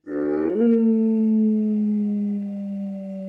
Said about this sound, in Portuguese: Um lobo!